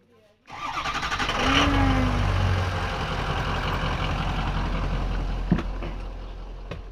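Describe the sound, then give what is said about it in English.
A large old school bus, volunteered to Project Housewarming to pick up big items, has its engine turn over and catch, then settle into a loud, steady idling rumble, with a couple of sharp clanks near the end and muffled voices in the background. “He's volunteering his time and his old school bus to the cause.”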